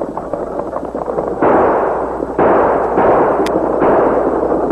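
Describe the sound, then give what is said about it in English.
Three loud gunshots crack out about a second apart as outlaws ambush a stagecoach and fire on its guard and driver, each shot leaving a long, harsh roar that lingers over a steady rumbling clatter. No voices are heard. “As Morgan grabbed his shotgun, Sax and Gloomy fired.”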